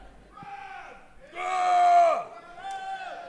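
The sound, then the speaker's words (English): A Seattle audience yells out the names of their favorite guests in loud, overlapping shouts over a murmuring crowd, rising in three bursts with the longest and loudest in the middle. “People are yelling out for their favorites.”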